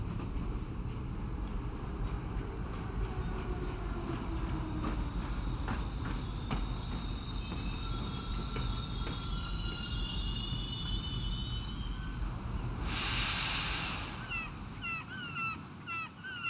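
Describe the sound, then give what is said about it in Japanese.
A train rumbles steadily as its brakes engage, letting out thin, high squeals that waver and fade, as it arrives at a small rural station near the coast. A sharp burst of hissing air follows as it comes to a halt, with faint chirps afterward. “それではブレーキをかけます。少しばかり揺れますのでご注意ください。”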